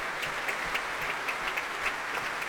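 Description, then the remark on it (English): Sustained applause from the players of a young orchestra after a Ravel work at the Proms: dense, steady clapping forms a continuous crackling wash with no pauses. No voices can be heard over it. “Big smiles, lots of applause from the players.”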